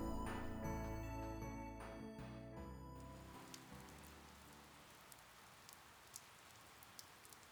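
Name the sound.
rain falling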